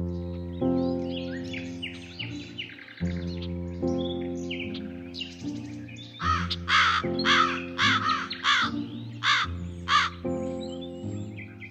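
Crows caw in a series of harsh, repeated calls, growing louder and more insistent in the second half, over a steady background of sustained musical tones.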